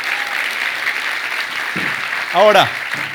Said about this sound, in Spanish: Vamos, si vas a aplaudir a Dios, hazlo con fuerza.